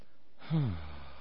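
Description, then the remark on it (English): A single slow, deliberate breath out, voiced and sinking in pitch like a drawn-out sigh, loud after a moment of quiet, with no talking. “Slowly, breathing.”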